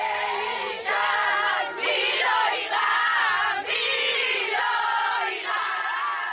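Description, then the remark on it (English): A large crowd of well-wishers holding flags chants and sings together in the southern city of Ofakim, many voices blending into loud, rhythmic surges that rise and dip every second or two, with high shouts cutting through. “Crowds of well-wishers waited in the southern city of Ofakim, holding flags, chanting and singing songs.”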